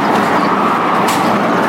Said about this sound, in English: You can probably hear a plane there.